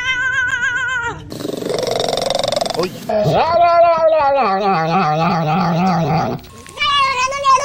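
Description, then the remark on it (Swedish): A series of loud cat vocalizations: several distinct meows and drawn-out, warbling yowls that rise and fall in pitch, with a brief breathy, noisy stretch between the calls. “Och jag tänker att vi kan väl lyssna på några kattläten då.”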